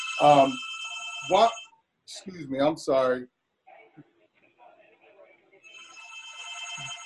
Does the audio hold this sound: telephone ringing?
yes